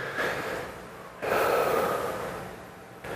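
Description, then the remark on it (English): An audience draws in a deep breath together on a count of three, a broad airy rush that swells and then slowly exhales over a few seconds, with no talking. “So catch your breath with me. Take a deep breath on three.”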